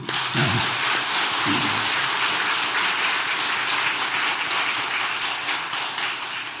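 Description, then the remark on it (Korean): An audience bursts into sustained applause, a dense, steady wash of many hands clapping at even loudness for several seconds, with a couple of brief low voiced sounds near the start. “네, 박수.”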